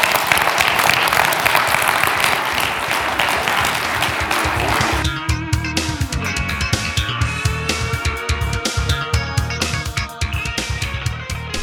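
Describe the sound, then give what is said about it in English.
A crowd claps loudly in dense, steady applause for about five seconds, then the clapping gives way to music with sharp percussive hits and sustained tones. “Well, let's give him a real hand clap.”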